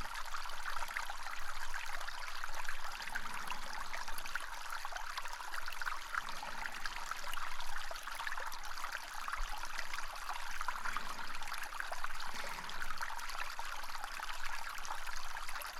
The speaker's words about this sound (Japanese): このささやかな水の音を聞きながら、わらわの足の感触をしばし堪能するとよい。どうじゃ、この部屋は。社の部屋の一つが池のように水で満たされている場所があるなど思わないじゃろう。